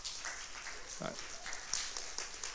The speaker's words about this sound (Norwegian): og da er det vel sånn at da klapper vi for de som er valgt inn i gruppa.